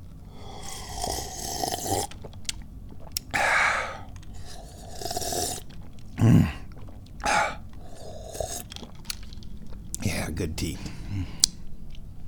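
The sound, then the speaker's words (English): Breathy slurping sips of hot tea, several in a row with pauses between, followed by soft exhales and a brief quiet spoken word. “We need to take a sip of tea.”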